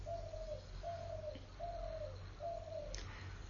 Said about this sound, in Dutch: Nogmaals, met op de achtergrond al het prachtige vogelgeluid wat je hoort, bijzondere vogels die we hier hebben, of ook net een duif hoorde die we ook gewoon hier hebben.